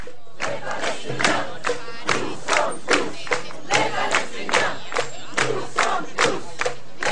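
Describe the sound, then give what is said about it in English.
A crowd of Gaza Freedom March members in Cairo chants "We are all Palestinians" in unison, loud voices rising and falling in steady rhythmic bursts about twice a second, with a constant murmur of the crowd underneath. “What you're listening to is a crowd of members of the Gaza Freedom March in Cairo.”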